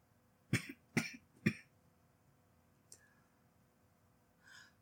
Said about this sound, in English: It's a dry cough, okay? You've never worried about that before.